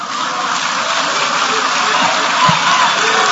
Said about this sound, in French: C'est sous ces acclamations frénétiques de la salle que Constant Mutamba déclare que les lois et la Constitution sont faites pour s'adapter aux nouvelles réalités qu'elles rencontrent.